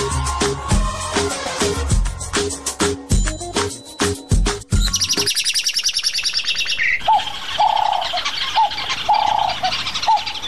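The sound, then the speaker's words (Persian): Punchy music stabs give way to a bright chorus of birds chirping, with busy overlapping tweets followed by clear, repeated calls that carry steadily to the end, with no voices. “قبل ما که می دیدیم در دیوارا این پرنده ها خانه جور می کردن، می رفتیم یا زینه را می موندیم یا به یک ترتیب مقصد بالا می شدیم، پرنده ها را از اولانه هاشان می کشیدیم، از بام خدا کشان می کردیم، گفتیم یکان تو مورد می کشیدیم و بر ترتیب بسیار آزار می دادیم.”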